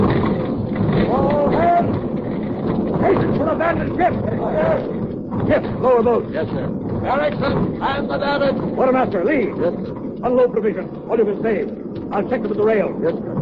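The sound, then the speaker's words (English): Ice grinds and crushes against a ship's hull, with loud groaning, creaking timbers and a deep rumble running continuously throughout, voices mixed in beneath the din. “At that instant, the ice got its teeth in her hull and snapped at the sprinters.”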